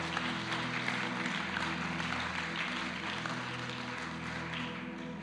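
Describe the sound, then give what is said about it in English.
A crowd claps and cheers for the Lord after a prayer, steadily for several seconds. It is a dense wash of applause over sustained low keyboard chords, with no one speaking clearly. “Let's give the Lord a shout or a clap or a, come on.”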